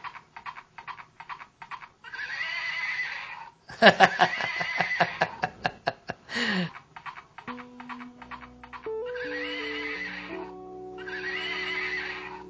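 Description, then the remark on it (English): A toy horse plays a tinny, electronic whinny and a steady clip-clop rhythm of hoofbeats, followed by a short, simple stepped tune, loud with no talking. “picks up this toy that had arrived that a visitor had given him”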